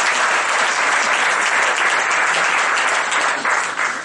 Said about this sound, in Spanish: Nos ponemos de pie, hermanos, demos un aplauso al buen Dios que nos ha perdonado.